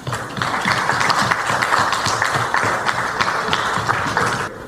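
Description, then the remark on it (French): An audience applauds steadily for several seconds, a dense wash of many hands clapping at a fairly even, loud level before it cuts off abruptly at the end. “alors qu'à les autres, ben, applaudissez.”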